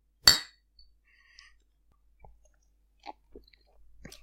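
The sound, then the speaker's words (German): A single bright, sharp clink of glasses touching in a toast, with a short ringing tail, followed by a few faint clicks and soft handling sounds. “Prösterchen.”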